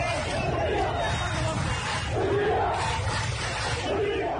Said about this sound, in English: Amateur video posted on Twitter showed large crowds of demonstrators in the streets of Port Sudan Thursday chanting slogans against President Bashir and his government.